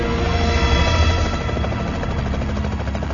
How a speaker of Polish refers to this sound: Minęła północ, gdy wreszcie dobiegł warkot pierwszego śmigłowca.